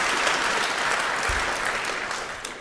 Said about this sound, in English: First, let's give a round of applause for the heralds and the angels for putting up with all this and generally keeping things moving smoothly.